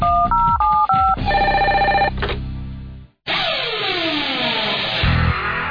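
A loud electronic telephone ring warbles rapidly between two pitches, then holds a steady buzzing tone, followed by a brief pause and a burst of swooping, whooshing electronic effects.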